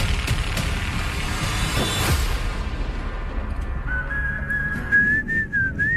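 A person whistles a bouncy, jaunty tune, the clear whistled melody entering in the last couple of seconds over steady background rumble that follows a stretch of loud, noisy commotion.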